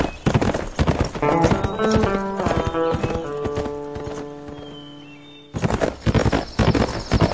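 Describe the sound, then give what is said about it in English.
Horse hooves clip-clop in a steady, loud rhythm of sharp knocks over a sustained musical tone as Sam Two Wolves rides off on horseback. The hoofbeats soften briefly, then return crisp and even before the end. “As he rode off, Sam Two Wolves was thinking some flat-out awful things about Matt Bodine.”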